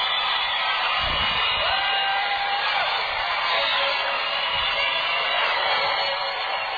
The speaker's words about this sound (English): And at his concerts, you have girls screaming and screaming, just like you have at a regular rock concert. In fact, here's an example.